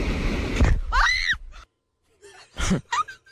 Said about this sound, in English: Yeah, I want to hear another minute of her just screaming bloody murder. Right, run to the beach. Ah! The thing sucked right. Ah! Right. So it obviously murdered her finger then. You heard it clamp down, man.